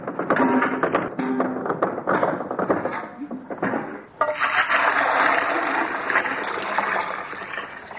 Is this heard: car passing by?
no